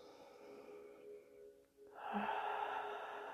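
Airy breathing during a guided breathing exercise: a soft, drawn-out breath followed by a louder, fuller rush of air after a brief pause, slow and unhurried with no talking.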